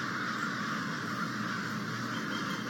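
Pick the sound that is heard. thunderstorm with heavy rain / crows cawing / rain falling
crows cawing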